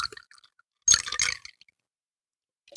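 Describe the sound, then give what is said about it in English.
A drink with ice is poured into a cup, a burst of splashing liquid and rattling cubes lasting about half a second, then quiet before a brief final clatter. “It sounds like a commercial ad with the ice.”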